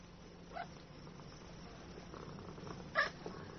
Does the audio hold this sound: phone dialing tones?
no